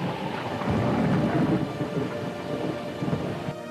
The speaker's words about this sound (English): But on the seventh day, it began to rain, and the fountains of the deep were broken up, and plot started.